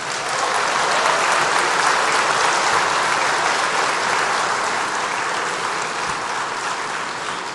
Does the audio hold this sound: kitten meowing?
no